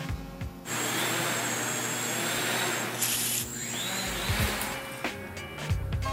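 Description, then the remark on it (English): A steady mechanical buzz starts abruptly after a brief quiet moment, like a quadcopter drone's rotors whirring at constant speed, with a high whine and slight wavering toward the end; a quadcopter carrying abortion pills, flown over the Oder river from Frankfurt to Słubice in June 2015. “Die Organisation Women on Waves demonstrierte im Juni 2015 gegen das Abtreibungsverbot in Polen und flog einen Quadrocopter mit Abtreibungspillen über die Oder von Frankfurt nach Słubice.”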